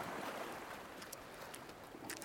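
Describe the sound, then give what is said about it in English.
Sea waves wash and splash against the shoreline by a seaside house in a steady, continuous hiss of moving water, with a few brighter splashes breaking through near the end. No voices. “During the high tide, especially in winter, the water almost reaches our home and we can hear the waves splashing against the shore.”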